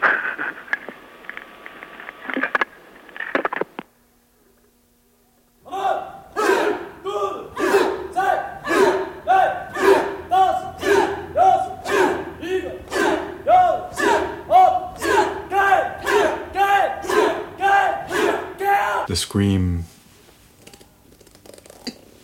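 A crowd screams and yells in loud, rhythmic bursts, roughly two per second, sustained for over ten seconds after a short burst of noise and a brief silence.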